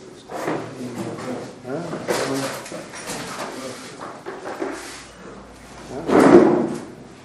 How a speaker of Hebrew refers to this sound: אפשר לפתוח כאן את הדלתות פה, לא?